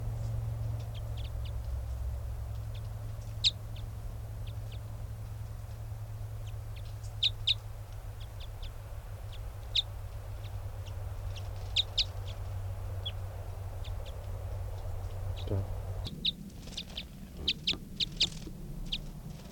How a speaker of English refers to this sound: That was a wild bird.